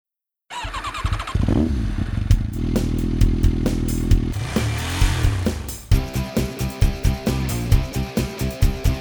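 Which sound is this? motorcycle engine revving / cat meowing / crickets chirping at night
motorcycle engine revving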